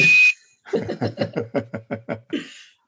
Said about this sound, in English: You need a little puff with the bosun's whistle.